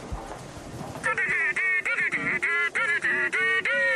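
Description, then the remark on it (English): A mobile phone ringtone, one of three ringtones on the phone, sounds after a brief quieter moment: loud, buzzy, honking tones in a steady rhythm of about seven short bursts, with no one speaking. “It's got three ringtones.”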